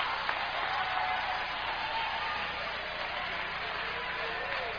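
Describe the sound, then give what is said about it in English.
A crowd applauds steadily, a dense wash of many hands clapping together, sustained and fairly loud throughout with a faint murmur of voices underneath. “Come on, clap your hands, somebody.”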